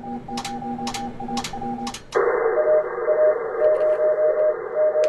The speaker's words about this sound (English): He works as the league's emergency preparedness and response manager, and he's sending out Morse code signals. In an emergency, it's a skill that might come in handy.